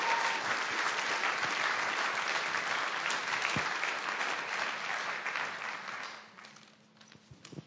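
Steady audience applause, a dense wash of many hands clapping at an even level for several seconds before thinning out and fading toward the end.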